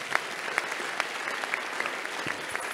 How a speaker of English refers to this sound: One Christian is clapping for Jesus Christ.